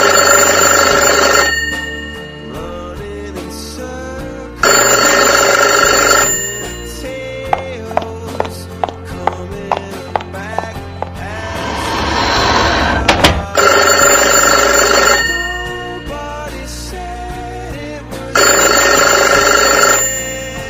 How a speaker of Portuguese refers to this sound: Alguns instantes depois, o telefone toca.